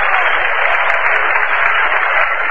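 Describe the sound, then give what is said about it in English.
A baseball crowd cheers for Marty of the Chicago Cubs as he comes up to the plate in the fifth inning, a steady, dense roar that holds at an even loudness throughout, with a thin, tinny quality like an old radio broadcast. No one speaks over it. “Marty with a double the last time up is coming up now, and he's getting quite a cheer from the crowd.”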